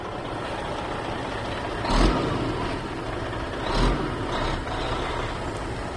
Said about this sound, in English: In the central part of the state, tractors are busy planting this year's crops.